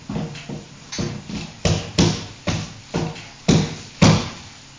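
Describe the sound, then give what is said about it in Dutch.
Repeated heavy thuds of a fist pounding on a door, about nine or ten blows in an uneven rhythm, growing louder and more forceful toward the end, with no voices. “Je kunt wel op de deur blijven bonzen, maar ja, ik weet niet wat je wil.”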